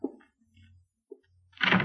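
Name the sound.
door opening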